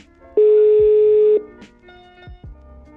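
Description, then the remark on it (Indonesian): A steady electronic phone tone sounds for about a second, followed by a few short beeps and low thumps, like a call to a friend being placed and connecting; no one speaks. “Ini gue telepon.”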